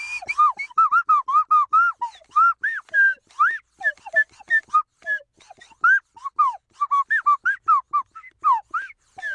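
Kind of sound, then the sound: sound effect, slide whistle being played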